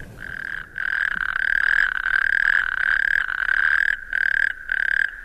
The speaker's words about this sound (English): A wonderful sound of natterjack toads.